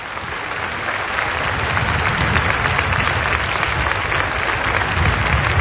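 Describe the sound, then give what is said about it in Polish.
Warm, joyful applause from a large crowd on the square of a sanctuary town in Italy's Marche region, thanking Pope Benedict XVI for his visit after Mass, a dense and steady clatter of clapping that holds at a strong, even level throughout, with no voices rising above it. “Słyszymy te oklaski, bardzo radosne, gorące, jako wyraz wdzięczności za obecność Benedykta XVI w tym przepięknym miasteczku, sanktuarium w regionie Marche.”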